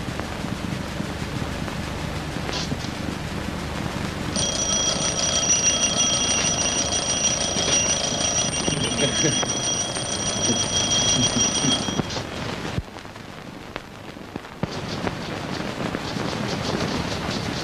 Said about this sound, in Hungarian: Azonnal csengetek az inasomnak.